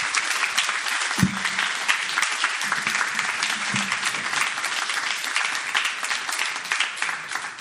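Sustained applause from an audience for a woman thanked in a speech as a mother and role model, a dense, steady wash of many hands clapping at an even loudness throughout, with a few brief low thumps and no speech.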